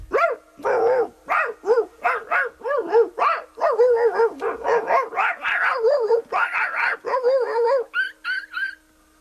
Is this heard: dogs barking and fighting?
yes